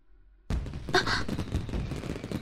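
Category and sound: sound effect, fireworks exploding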